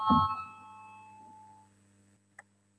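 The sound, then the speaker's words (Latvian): A single bell rings in a parliament to call a vote on the Budget and Finance (Taxation) Committee's 14th proposal, with a bright struck attack, its tones slowly fading over about two seconds, followed by a brief faint click. No one speaks. “Lūdzu zvanu, balsosim par 14. Budžeta un finanšu nodokļu komisijas priekšlikumu.”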